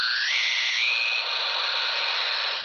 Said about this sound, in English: But anyway, afterwards, we could certainly hear that rhythmic sound of a dishwasher doing dishes coming over your high-frequency transceiver.